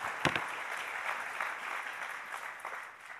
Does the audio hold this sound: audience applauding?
yes